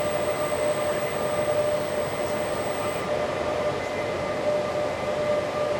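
A UPS being switched from high-reliability mode into high-efficiency bypass mode gives off a steady electrical buzz over a constant whooshing fan noise; a thin high-pitched whine cuts out about halfway through as it is bypassed, while the lower hum continues. No one speaks.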